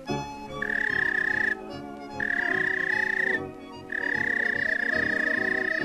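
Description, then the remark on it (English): A whistle for calling a police dog blows three long, steady, high notes, each held about a second or more with short gaps between, sounding loud over a busy background. “Suppose you own a police dog. Here's the way it whistled to him.”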